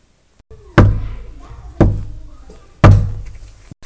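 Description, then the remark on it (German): Three firm, evenly spaced knocks on a wooden door, each a solid thud with a short ringing decay, loud, with no voices. “Es macht sich Sorgen und klopft an die Tür.”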